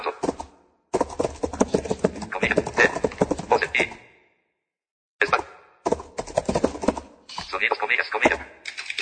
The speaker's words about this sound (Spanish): No dijo Josh como de costumbre cuadro de edición. Que eso quiere decir que se oye la máquina de escribir y ya estamos en el cuerpo del mensaje.